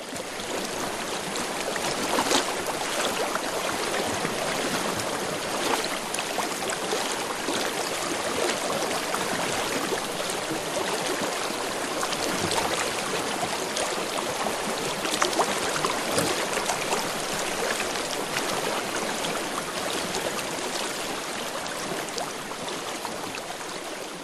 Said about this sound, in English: A river is born. It gathers sediment and other debris, carving out valleys, reshaping mountains.